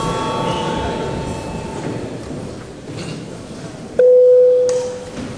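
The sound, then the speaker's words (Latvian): Over a steady murmur of background noise, a parliamentary session bell, called for before registering deputies' attendance, suddenly sounds as one loud, sustained mid-pitched electronic tone lasting under a second before cutting off. “Tā, tagad lūdzu zvanu.”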